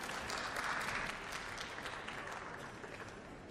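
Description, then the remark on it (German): Sustained applause from a large assembly in a parliament chamber, a dense steady patter of many hands clapping at once, holding fairly even before easing slightly toward the end. “Jetzt ist Applaus möglich.”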